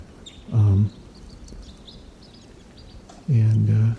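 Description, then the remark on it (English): Wild birds call from the treetops above nets at sunrise, with faint, high, scattered chirps, broken twice by a louder, low, droning harmonic call lasting under a second each time. “Birds are in the treetops above the nets, and they're calling slightly here.”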